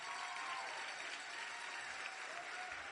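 Steady audience applause, a dense wash of many hands clapping at an even, sustained level throughout, with no voices standing out.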